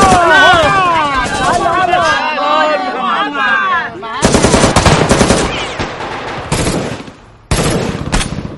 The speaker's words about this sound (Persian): اینجا چه خبره؟ بابا اینا از ارتش کمک گرفتن. ما تو هیچ عملیاتی دیگه اینجوری زیر آتش نمونیم بابا.